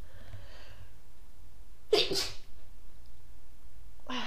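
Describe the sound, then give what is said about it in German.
A single sharp sneeze, a quick two-part explosive burst followed by near silence. “Also im Endeffekt stell dir vor, jedes Mal, ich muss niesen.”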